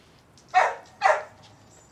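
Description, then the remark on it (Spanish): A dog, Beto, barks twice in quick succession, sharp, with a third bark just starting at the end; no talking, only a quiet background between barks. “Mi perro tiene que ir al baño.”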